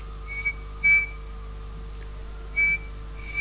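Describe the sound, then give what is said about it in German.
A person whistles a short series of high, thin beeping notes, imitating a bird sitting outside: two quick pips, a pause, then two more, fairly quiet over a steady low hum. “Das hörte sich dann etwa so an. Ich mache das mal mit dem Pfeifen jetzt nach, so ungefähr.”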